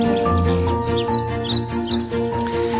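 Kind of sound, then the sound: bird, birds singing and chirping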